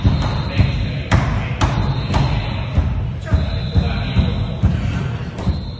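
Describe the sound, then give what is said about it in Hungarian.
Protesters outside bang heavily on the door of a city council meeting in Győr in loud, irregular thuds, about eight in under six seconds, over a steady murmur of voices, with a thin, high whistling from the protesters running through. “Az Index felvételéről kiderül, mennyire behallatszott az ülésre az, ahogy a tüntetők kívülről dörömböltek az ajtón és sípoltak.”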